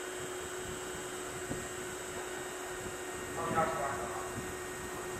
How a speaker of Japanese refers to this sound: まもなく神戸三宮方面へ向かう電車が到着します。危険ですので黄色い展示ブロックの内側にお下がりください。